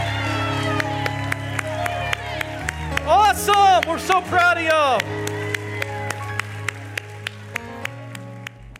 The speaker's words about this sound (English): I'm going to let these guys be dismissed. Would you give a big round of applause?